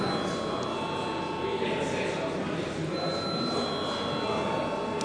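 parliament voting bell ringing

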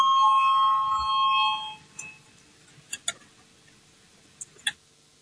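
parliament voting bell

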